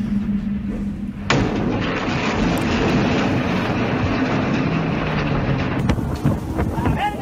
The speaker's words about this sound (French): Alors, ce que l'on vient d'entendre là, c'est une pierre qui vient briser la vitre de l'un des navires de Sea Shepherd, et puis les cris des assaillants qui sont contents de leur coup.